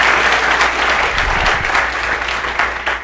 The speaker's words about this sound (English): That was awesome. Was that not beautiful? Why don't you clap for her a little bit? She did good.